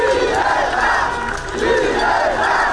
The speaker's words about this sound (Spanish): Cacerolazos, bocinazos y un mismo grito resonando por todo el país.